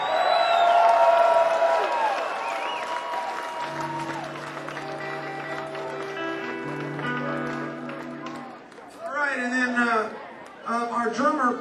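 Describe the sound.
A crowd applauds and cheers loudly, with whoops and whistles over steady clapping; a low sustained tone hums beneath as the noise fades, then a man begins speaking.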